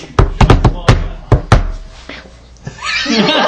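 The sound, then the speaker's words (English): A loud patterned secret signal knock, used to show membership of a gang: about seven sharp raps in a quick, uneven rhythm, two fast groups then a pause, followed by a short vocal noise imitating a little owl's hoot. “I think usually you kind of have like a number of knocks that you do, like kind of as a signal to show that you're a member of the gang.”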